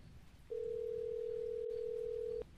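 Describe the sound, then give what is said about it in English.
A steady telephone tone sounds once for about two seconds while a call is placed to a manager, loud over a faint low rumble of background noise, with no one speaking. “Let me try my manager.”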